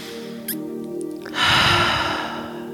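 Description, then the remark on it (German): A soft, quiet breath drawn in through the nose, followed by a louder, breathy exhale through the mouth lasting over a second, with no talking. “Wir atmen nochmal durch die Nase ein und durch den Mund aus.”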